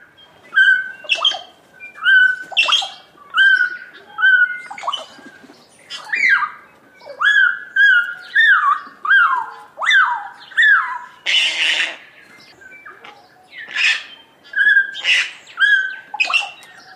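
Kakas, bellbirds and other bird species calling at a bird feeding station, a busy run of harsh squawks, whistled notes and bell-like chirps repeating in quick bursts, with no talking.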